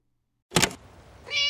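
cat meowing

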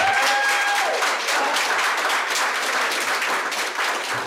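audience applause

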